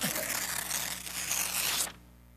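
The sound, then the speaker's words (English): A sheet of paper is ripped in two in one long, continuous tear lasting about two seconds, crisp, stopping abruptly into near silence. No one speaks. “Now, a bad thing about paper, when I rip this, I can't really put it back together.”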